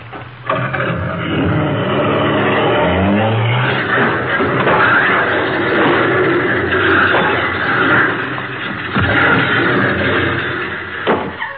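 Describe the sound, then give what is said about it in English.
A car engine revs briefly as the car, its accelerator stuck, drives through the back wall of a garage, swallowed by a loud, sustained crash of splintering wood and clattering debris that rumbles on for several seconds, with a couple of sharp impacts near the end. “Why, he went right through the back of the garage.”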